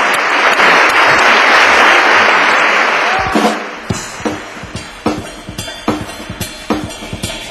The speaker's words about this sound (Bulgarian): Ама хайде, де, ръкопляскай ми. Ръкопляскай ми, де, виж колко е просто. О, По-силно! По-силно! Още по-силно!